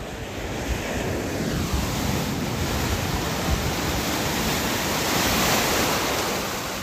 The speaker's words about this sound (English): Yeah, you hear those waves? Yeah. So, yeah, anyways, the resort that we're at is Riu. We're at the Riu Cancun.